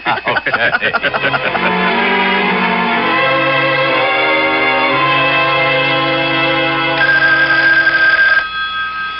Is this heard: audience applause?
no